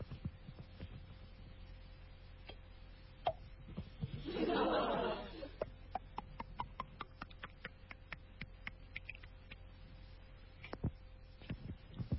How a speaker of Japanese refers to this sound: 心臓の音。